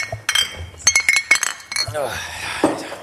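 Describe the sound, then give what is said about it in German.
Glasses clink together in a toast several times in quick succession, bright with a short ringing tone, followed by a person speaking. “Prösterchen. Prost.”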